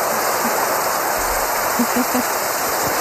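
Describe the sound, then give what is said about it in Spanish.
A steady hiss of rushing water that sounds like rain falling, continuous and fairly loud for the full three seconds, with only faint low murmurs underneath. “Hay una agua ahí, está lloviendo.”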